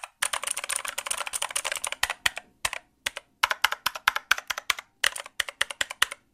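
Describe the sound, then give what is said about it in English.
Mechanical keyboard with gold switches typing, a fast dense burst of clacky keystrokes at first, then slower separate taps in small clusters, fairly crisp, with no voices. “Same keyboard, same switches, different room, different mic, and I bet it's gonna sound completely Oh, different in yeah, audio.”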